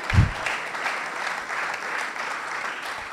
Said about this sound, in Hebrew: אתם מוחאים כפיים ואני מקבל צמרמורת.